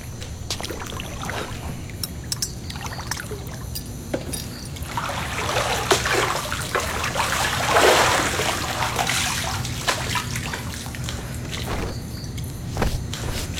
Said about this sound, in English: Mind if I pour myself a drink?